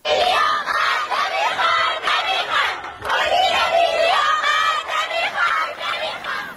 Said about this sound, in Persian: دانش آموزان این مدرسه دخترانه در محله دیلمان شهر ری در اعتراض به سیاست‌های مدیریتی این مدرسه در داخل حیات تجمع و شعار اعتراضی دادند